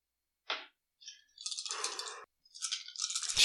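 dice being rolled

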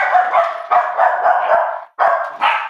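dogs barking

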